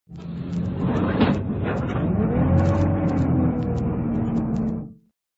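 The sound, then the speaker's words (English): A bus engine rumbles loudly and steadily as the bus drives away, about five seconds of low droning growl with a faint rising whine, before cutting off abruptly. “The bus had just left, so I rushed to school as fast as I could on foot.”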